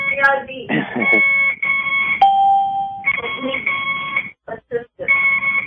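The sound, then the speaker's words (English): An IV infusion pump beeping: a run of loud electronic tones, mostly steady and sustained, including one held lower beep, then short choppy beeps near the end. “Her IV. You hear the beeping?”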